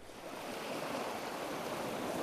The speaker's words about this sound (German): Eine stille Welt. Kein Vogelgesang, kein Bienensummen, kein Blätterrauschen. Nur das Geräusch des Meeres.